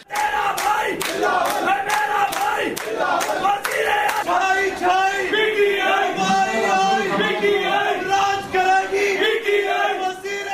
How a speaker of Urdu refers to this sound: Sindh assembly کی gallery میں تحریک انصاف اور پیپلز پارٹی کے حامیوں نے نعرے بازی کا مقابلہ کیا، تو تحریک لبیک کے رکن اسمبلی نے فلور پر کھڑے ہو کے نعرے لگائے.